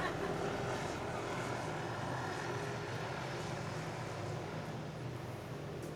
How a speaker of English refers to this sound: It looks like a traffic helicopter. Probably heard my story about 100 miles an hour.